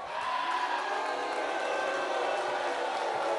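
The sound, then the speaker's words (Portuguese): A large crowd in Maceió boos Arthur Lira, president of Brazil's Chamber of Deputies, as he is announced at President Lula's handover of 914 Minha Casa Minha Vida housing units: a continuous, steady roar of many voices, holding an even loudness throughout with no pauses and no single speaker standing out. “Eu duvido que um morador que vai ser atendido por essas casas esteja vaiando hoje.”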